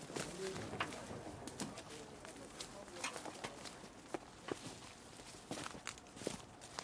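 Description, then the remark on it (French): Birds chirp faintly outdoors, partly masked by irregular footsteps on the ground and a steady background hiss. “Je sais pas si vous entendez les oiseaux.”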